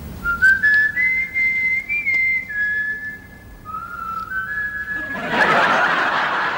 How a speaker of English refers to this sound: The timing of … doing his whistle, which is this whistle.